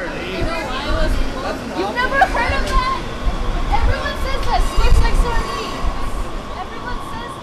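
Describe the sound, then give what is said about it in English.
A dense hubbub of many overlapping voices of riders fills a crowded light-rail train on the T-Line after a Giants game, steady and loud throughout, with a low rumble of the moving carriage underneath. “This means taking the train up and down the line talking to riders after a Giants game.”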